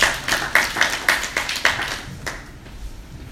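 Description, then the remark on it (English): A brief round of applause for Paul, made of steady, evenly spaced sharp claps, about eight in a row, that soon thin out and fade into quiet, with no talking. “Everybody give Paul a round of applause.”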